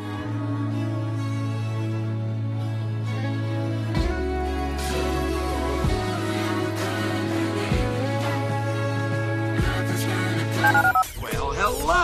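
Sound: telephone keypad dialing tones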